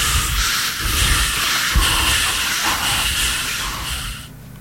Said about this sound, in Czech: Funíte? Nefuňte sami. Radio Akropolis funí s vámi.